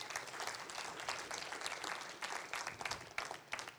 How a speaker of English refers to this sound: Thank you so much, painters, and just everybody that shared about what was going on today. Can we just clap for everybody that shared again?